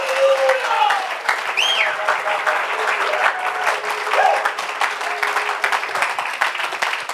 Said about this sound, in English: One more time, would you clap your hands unto the Lord and give him some praise?